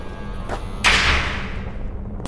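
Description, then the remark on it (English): A door swings and shuts with a solid thud that rings out briefly, framed by a couple of lighter knocks before and after. No one speaks. “Now, where is this door?”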